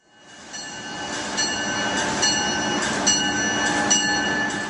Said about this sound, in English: The sounds of high-speed trains may never tire for business commuters, but what does get old over time are the train's interiors.